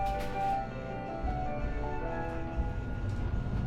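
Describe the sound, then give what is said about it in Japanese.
A Hakodate streetcar bound for Hakodate Dock-mae departs and rolls along rails with a steady low rumble and motor hum, faint tonal whines rising above the continuous rolling noise, moderately loud with no talking. “発車します。手すり、つり革におつかまりください。”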